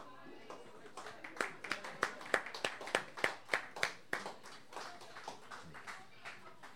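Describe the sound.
A short burst of applause from an audience for a musician about to play: sharp, fairly steady claps that build to a peak in the middle and then thin out and fade, with a faint murmur of voices underneath.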